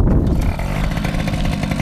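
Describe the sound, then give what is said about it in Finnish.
A small PV moped, just kick-started, runs loud, a steady raspy two-stroke buzz with slight revving throughout, with no voices over it. “PV polkaistiin käyntiin.”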